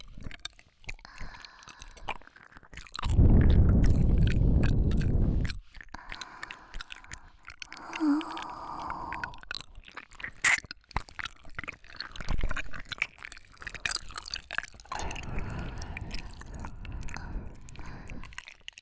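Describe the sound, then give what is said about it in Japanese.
Wet, squelchy ear-licking mouth sounds with soft clicks and smacks, a loud sustained burst early on, then irregular moist bursts and faint breathy noise, with no talking. “ではこのまま耳なめ手こきを続けさせていただきますね。”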